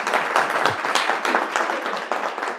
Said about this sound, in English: You got to give him a round of applause.